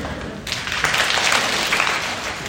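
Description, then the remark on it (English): A burst of clapping during an exercise warm-up's clapping movement starts after a brief quiet moment and continues as a dense, steady patter at moderate loudness, with no talking over it. “I love the clapping movement.”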